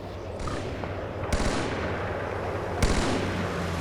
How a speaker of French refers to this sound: J'entends des coups de feu.